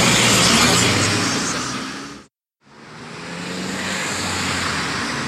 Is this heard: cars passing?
yes